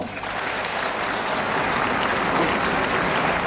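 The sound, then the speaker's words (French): Sustained applause from the public and standing deputies in the French parliament as Robert Badinter leaves the tribune after his speech for abolishing the death penalty, a dense, steady wash of clapping hands at an even loudness with no voices standing out. “Robert Badinter quitte la tribune sous les applaudissements du public et des députés de gauche qui tous se sont levés.”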